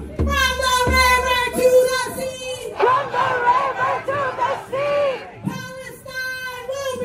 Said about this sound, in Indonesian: ribuan demonstran sejak pagi melangsungkan unjuk rasa di depan Kongres Amerika